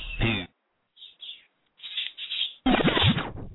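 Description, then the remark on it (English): Pet birds chirping at night in a string of short, irregular bursts of high, trilling calls, growing busier and louder toward the end, after a brief voice at the start. “Them motherfuckers chirping tonight, sir.”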